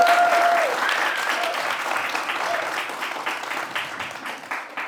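An audience claps steadily throughout, a dense, even wash of many hands with no talking, the applause fading slightly toward the end. A faint whistle-like tone sounds briefly at the start.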